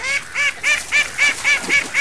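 Ducks in a duck pond quack loudly and agitatedly, a rapid, steady run of about eight harsh, nasal calls, with no talking.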